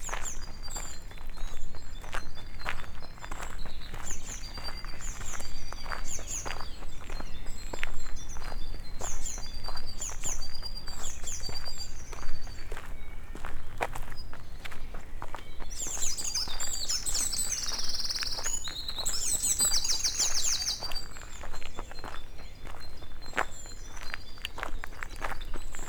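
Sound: birds singing at dusk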